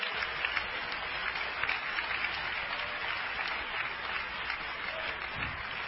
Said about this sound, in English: Oh, clap your hands unto the Lord. Hallelujah.